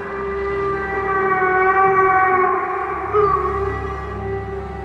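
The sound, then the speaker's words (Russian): An eerie, distant howl hangs in the air far behind and high in the sky, a sustained siren-like tone with layered overtones that wavers slightly in pitch for about five seconds. No one speaks. “Когда я на четвереньках полз вверх по бурому склону, я услышал где-то далеко позади и высоко в небе тот самый вой, который однажды чуть было не отнял у меня рассудок.”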